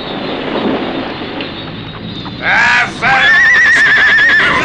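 A horse neighs loudly twice in quick succession, a shrill, quavering whinny that rises and wavers, following a low rumbling background.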